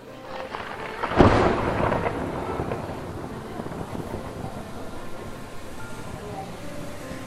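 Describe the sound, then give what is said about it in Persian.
A single clap of thunder breaks about a second in, then rolls into a long, steady low rumble that fades only slightly, like a storm building before rain. “میخواد بارون بگیره، من دارم میرم همون خیابون”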